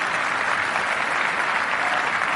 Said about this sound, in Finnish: Tervetuloa, annetaan taputukset teille.